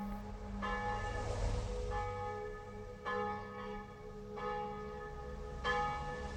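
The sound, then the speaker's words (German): Wedding bells peal out, with about five resonant strikes overlapping in a steady rolling rhythm. Each new strike rings over the long hum of the previous ones. No voices are heard. “Beide hatten übereinstimmend das Gefühl, dass für sie bald die Hochzeitsglocken läuten würden.”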